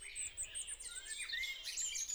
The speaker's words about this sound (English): People tend to find bird sounds more relaxing and more pleasant if they're kind of smooth and harmonic sounding, if they're high-pitched, if they're quiet, if they have a sense of complexity as well